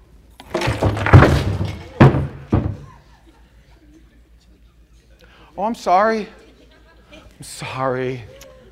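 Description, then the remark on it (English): A table is thrown over, with a loud burst of heavy thuds and clattering items, including a Bible, hitting the floor over about two seconds, followed after a pause by two brief voiced exclamations. “It's kind of a violent thing when you throw a table over, isn't it?”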